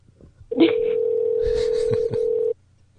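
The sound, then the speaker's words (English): A single steady electronic ringback tone on a phone line, loud, holding for about two seconds before cutting off, with faint rustling noise underneath. “He was just mopping in the room and the phone rang, so.”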